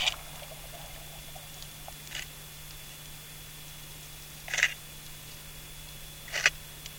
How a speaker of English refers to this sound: And here, this is an example of a bumphead parrotfish crunching on coral.